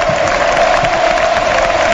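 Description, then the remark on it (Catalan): A large stadium crowd of Las Palmas fans, standing, roars and applauds at a football match as the last substitution is made, Momo going off and veteran Valerón coming on, in a steady, dense wash of clapping and cheering, sustained throughout with no individual voices standing out. “aplaudeix l'afició en el moment que es fa l'últim canvi”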